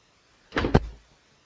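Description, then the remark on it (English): A car door shuts with a quick scrape and then a solid, low thunk, a short, fairly loud two-part closing sound with no voices around it. “The door closed.”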